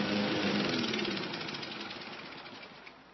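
A small lawnmower engine runs with a rough, steady rattling drone, loud at first and gradually fading slightly toward the end, with no voices present.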